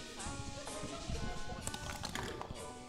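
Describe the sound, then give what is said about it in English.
Dice clatter and tumble across a table in a quick burst of sharp, irregular clicks and rattles, settling after a few seconds, with faint voices murmuring underneath; the dice are rolled for an attack in a game, needing 14 or above, and land on 20. “So you need to roll a 14 or above. Gonna get all these lesser dice out of the way.”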